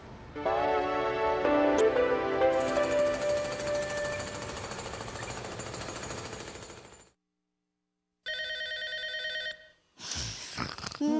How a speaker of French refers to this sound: téléphone. Téléphone.